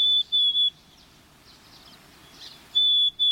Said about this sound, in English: Black-capped chickadees sing a plaintive whistled song